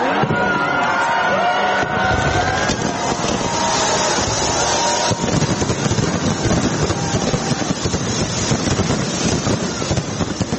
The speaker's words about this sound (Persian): شهر سیدنی با آتش بازی بی سابقه از سال نو 2023 میلادی را استقبال کرد.